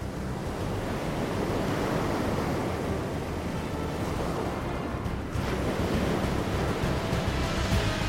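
Steady roar of sea waves and gusting wind fills the scene, a dense, continuous wash of surf with a brief dip midway, as if heard from the deck of Captain Gatuno's sailing ship, its large sails driven by a following wind.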